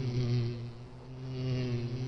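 A steady, droning buzz of bees hums continuously, swelling slightly and easing back, with a strong low tone and no voices.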